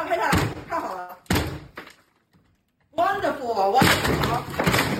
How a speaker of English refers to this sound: The entire building is being taken to. And when you say taken to, I mean, they are literally kicking down the doors. Take a look at this video of them coming for one family.